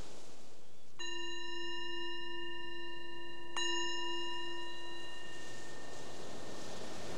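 A meditation bell is struck twice, a few seconds apart, to bring awareness back from a guided breathing meditation, each strike leaving a clear, layered ringing tone that hangs and slowly fades over a soft background hiss.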